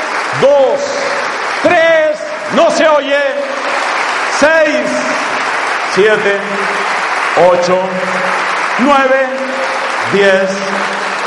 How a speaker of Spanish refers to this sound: Vamos a darle un aplauso de 12 segundos a Jesucristo, el que vive.